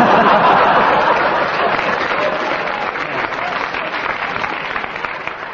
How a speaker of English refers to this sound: I must explain to our listeners that the round of applause was not so much for what Kenneth said, but the way he acted up the part. They applauded because they thought he was leaving.